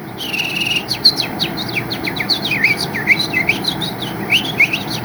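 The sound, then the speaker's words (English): A person whistles an imitation of a house finch's song: a rapid, rambling run of bright, warbling chirps and slurred notes that goes on without a break for several seconds, fairly loud. “That's a house finch.”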